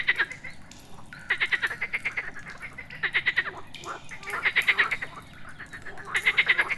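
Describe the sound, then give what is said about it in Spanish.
Frogs croak in a cool cave in rapid pulsing bursts that repeat every second or so, several calls overlapping at a steady moderate volume, with no talking over them. “Ahora, aquí en la frescura de la cueva, observa cómo las ranas saltan de piedra en piedra.”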